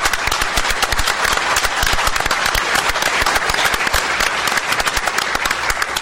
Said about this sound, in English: And they were very helpful to me personally, and I would like to thank them and give them a round of applause.